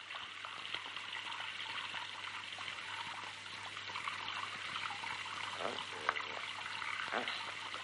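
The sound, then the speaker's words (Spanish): Water runs steadily from a tap into a bathtub onto the face of a person hiding in the tub, a continuous splashing rush with small gurgles and drips breaking through now and then. “El Tato, en la bañera, abre la boca impotente por el agua que le empapa todo el rostro”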